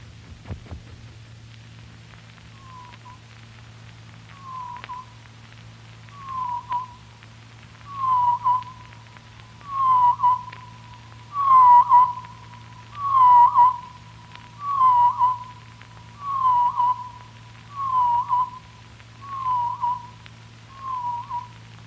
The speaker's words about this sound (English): there is, of course, an associated drop in pitch, amounting to 3 octaves. This transformation from high soprano to basso profundo is startling, but the modulations, at least, are in many cases recognizable. The Black Pole Warbler.